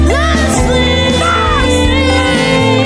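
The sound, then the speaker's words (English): A man yells and shouts angrily over loud, dense music, his strained voice sustained and harsh for a few seconds, right up front in the mix. “I like when he yells like he's had it.”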